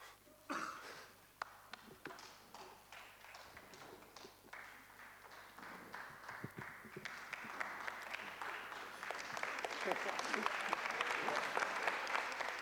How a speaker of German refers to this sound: Ein erster verhaltener Applaus macht sich bemerkbar.